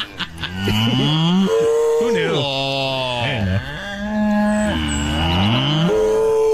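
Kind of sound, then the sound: animal, cow mooing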